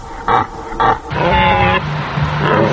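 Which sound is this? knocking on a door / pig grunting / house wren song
pig grunting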